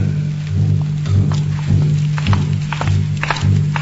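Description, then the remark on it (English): Steady, evenly paced footsteps of two brothers walking together in step fall about every half second over a low, constant rumble, with small scuffs and taps between the heavier steps. Nobody speaks. “Footsteps, footsteps keeping time together. My brother's and mine, listen to them.”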